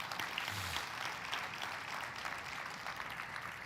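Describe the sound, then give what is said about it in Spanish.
An audience at a church service breaks into sustained, dense applause for the Lord, many hands clapping together in a steady, loud wash that holds without pause, with a faint low hum briefly underneath. “¿Cuántos le pueden dar un fuerte aplauso al Señor?”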